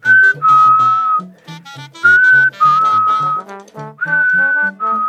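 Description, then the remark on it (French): A whistled melody of long, sustained notes with short breaks between phrases, fairly loud, with soft low tones underneath and no talking. “Il siffla doucement, longtemps.”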